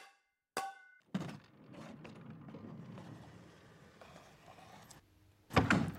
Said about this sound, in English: Excuse me, mister. We do not slam doors in this house.